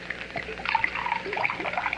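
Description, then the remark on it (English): Scotch whisky and water pour steadily into a glass for about two seconds, a bright trickling and splashing with small gurgles as it fills. No one speaks. “A scotch? Any special brand? No, whatever, any kind. Soda? Water? I guess water. Mix it for you?”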